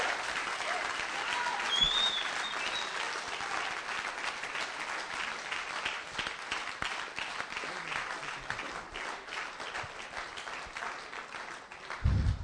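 A crowd applauds steadily for about twelve seconds after a guest speaker's message, a dense wash of many hands clapping at even loudness, with a brief high whistle near the start and scattered cheers mixed in.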